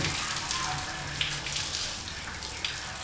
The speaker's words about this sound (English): Back in the shop's work area, he lifts the now shiny kettle he's working on out of the tub of sulfuric acid and rinses it off.